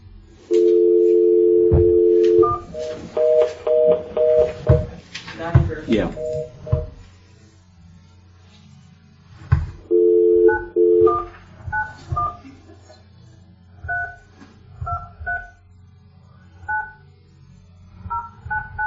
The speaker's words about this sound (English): All right, I'm going to give him a phone call.